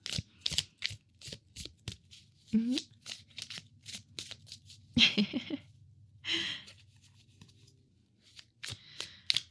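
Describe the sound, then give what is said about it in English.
Crisp flutters of a deck of playing cards being shuffled in quick repeated bursts, with soft murmured voices and brief vocal sounds woven between the riffles. “I'll stop shuffling and put these away.”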